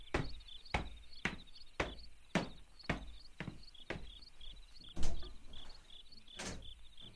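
Knocking on a door at night: about a dozen sharp, evenly spaced raps, roughly two per second, fairly loud, over a faint steady background hum.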